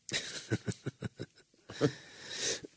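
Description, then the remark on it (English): A coughing fit: a quick run of short, sharp coughs in a steady rhythm, then a pause and a couple of heavier, rasping coughs with a strained breath, no talking. “I'm really sorry about the coughing, guys.”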